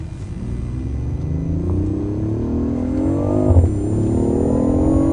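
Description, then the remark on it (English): A powerful sports car engine, driven in Sports Plus mode, revs and climbs steadily in pitch as it accelerates, briefly dipping at a gear change before pulling again, loud with a deep rumbling low end. “This is the first time you've actually driven this car. Sports Plus mode.”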